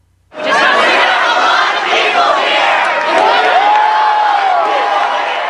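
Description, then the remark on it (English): Thousands of Occupy Wall Street protesters at the encampment in Zuccotti Park, Lower Manhattan, New York, burst into loud cheering and applause after a brief moment of quiet as word spreads that Mayor Michael Bloomberg called off their eviction, with many voices shouting and whooping over steady clapping that holds at full volume throughout. “Thousands at the month-long encampment in Lower Manhattan erupted into applause as word spread that Mayor Michael Bloomberg called off his promise to evict the protesters.”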